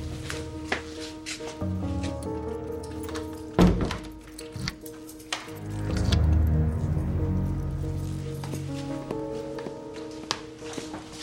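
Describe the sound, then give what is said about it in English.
A door is unlocked with a key from a set of keys and opened: scattered metallic clicks and taps, then a single heavy thunk, with a low droning hum underneath throughout and no one speaking. “Which one of these locks this door?”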